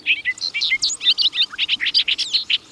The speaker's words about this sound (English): And that singing bobolink? Well, he covers an even greater distance to return to Maine, migrating north to the meadows of Sunkhaze from as far off as Bolivia.